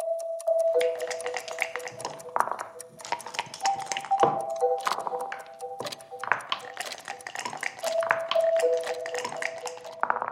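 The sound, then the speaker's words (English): Dice clatter across a backgammon board in a rapid, uneven run of hard clicks and taps lasting several seconds, with a faint steady tone humming underneath; a deciding roll where a four is needed to win. “So this is the roll. If I roll a four, I'm going to win.”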